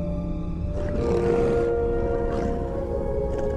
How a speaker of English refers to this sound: It's a big old Loth Wolf.